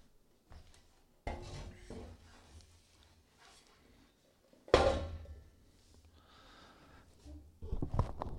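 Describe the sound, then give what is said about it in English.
A chair is grabbed and dragged, with several rough wooden scrapes and rubs, a sharp knock partway through, then more scraping and shuffling at the end. “Hold on, I need to grab a chair.”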